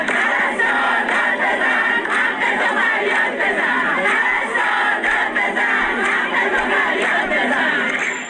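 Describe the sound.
A large crowd of protesting nurses in Iran, holding up empty tablecloths, chants slogans such as "Nurse, shout, cry out for your rights" and "Enough promises, our table is empty", loud and sustained for the whole stretch, many voices merging into a steady roar with rhythmic surges.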